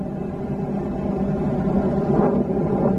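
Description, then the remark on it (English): A steady, loud low-frequency roar fills the space without a break, the constant droning hum of a Southwest Airlines cabin in flight from Hartford, Connecticut to Chicago, Illinois, around 7:50 a.m. at about 30,000 feet, with no voices heard. “On board Southwest Airlines flight from Hartford, Connecticut to Chicago, Illinois.”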